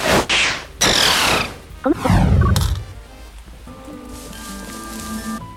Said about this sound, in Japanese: 困んないとは思うんだけど。今雨だね。